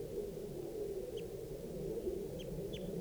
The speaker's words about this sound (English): I've got 2 birds in the tree, a gray bird and a red bird. And they were in the same tree as the adult female, and they're calling here. That's the adult male, that's the gray, male gray.